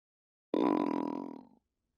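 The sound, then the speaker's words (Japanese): A single loud, drawn-out low growl lasting about a second, a voice imitating a rumbling, gurgling stomach full of gas, fading slightly before it stops, with silence around it. “お腹ギュルギュル言ってる。お腹の中のガスが早く外に出たくって暴れてるの。”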